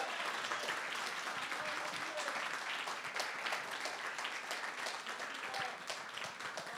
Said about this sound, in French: Ouais, soyez bénis. Merci d'avoir acclamé le Seigneur.